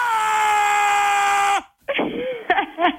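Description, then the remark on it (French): A person lets out one long, loud, sustained scream that holds steady for over a second before breaking off, followed by a few short, muffled vocal bursts, while in a cryotherapy chamber at minus 150 degrees. “Quand vous faites de la cryo, vous criez.”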